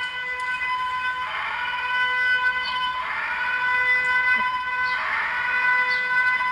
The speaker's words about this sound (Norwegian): Er det en gammel luftsirene, eller sånt da? Har dere satt opp en sirene?